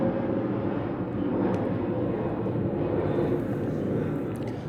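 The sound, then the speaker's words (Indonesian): A loud, steady roar of an airplane engine fills the whole stretch, dense and rumbling, like a plane going down, heard alone without any voices. “Oke. jatuhnya pesawat.”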